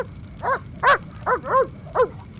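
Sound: dog barking loudly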